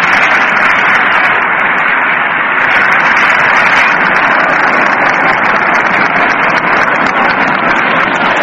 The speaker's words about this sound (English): The batter now is Castleman. The applause is rising as he comes walking to the plate.